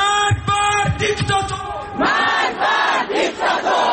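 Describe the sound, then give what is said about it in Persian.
A crowd of marchers at a protest march in London shouts slogans in unison, including "democracy for Iran" and "the mullahs must leave Iran", loud rhythmic bursts of many voices rising and falling together, with sharp percussive hits punctuating the first half. “اینجا در لندن شرکت کنندگان در این راهپیمایی فریاد می‌زنند دموکراسی برای ایران، آخوندها باید از ایران بروند.”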